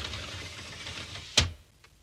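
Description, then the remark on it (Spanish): A minister in a tailcoat and white bow tie closes a sliding living room door. It rolls along its track with a steady rumbling hiss, then shuts with a sharp thud, followed by a faint click. No voices. “Él cierra la corredera del salón.”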